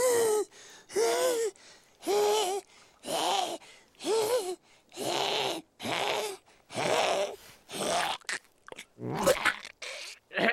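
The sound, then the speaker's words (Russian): Puss in Boots, the cat from Shrek, retches and hacks up a hairball in a loud series of about ten harsh, wheezy heaves, the rhythm turning quicker and more ragged toward the end, with no talking. “Выплевывает комок шерсти.”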